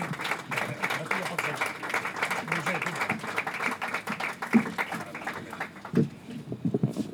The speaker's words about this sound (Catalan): Fort aplaudiment.